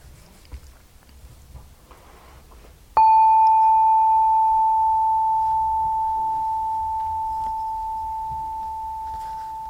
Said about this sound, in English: I'll ring the bell once to start and then three times to finish.